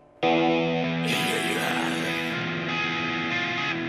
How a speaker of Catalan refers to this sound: Si et sembla bé, anem a sentir el tema que dona nom al disc